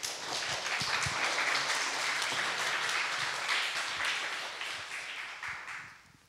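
A crowd applauds steadily, a dense wash of many hands clapping at an even level for several seconds before it thins out and fades toward the end.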